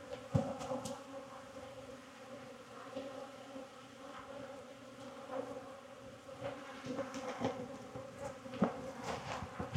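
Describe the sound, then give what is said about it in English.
Steady, dense buzzing of many honeybees around an open hive whose frames are being inspected, a continuous droning hum with occasional louder passes as individual bees fly by, with no voices present. “Way out here on the end, lots of drone comb on the bottom.”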